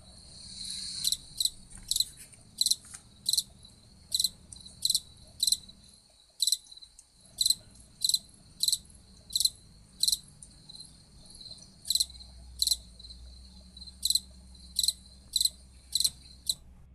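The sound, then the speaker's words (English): An April Chirper cricket sings a steady series of short, high-pitched chirps, roughly two per second, with one brief pause partway through. No one speaks, and there is a faint low rumble underneath. “I have a feeling by now, by the third passage, you would have guessed that was a cricket. This is called the April Chirper, and we're going to listen to the April Chirper song one more time.”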